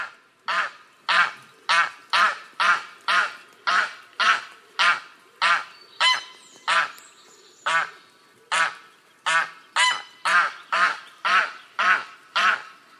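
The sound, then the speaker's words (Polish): A greylag goose gives a rapid series of loud, harsh alarm honks, about twenty in quick rhythmic succession with a brief pause midway, clear with no voices. “A tak gęś gęgawa.”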